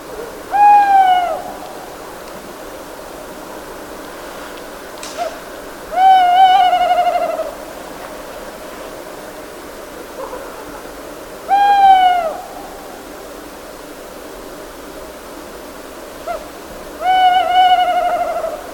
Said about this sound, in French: Oui, vous l'avez reconnu, la fameuse mauvaise augure, ou l'oiseau du malheur. C'est la chouette hulotte.